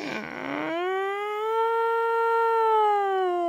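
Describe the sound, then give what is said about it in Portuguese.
A voice lets out a long, sustained wailing cry, called the 'siren cry', which imitates a police or ambulance siren. It rises and holds a steady high pitch, loud and unbroken for several seconds after a brief noisy start. “Quando ele chora, parece uma sirene ou de polícia ou de ambulância, mais ou menos assim.”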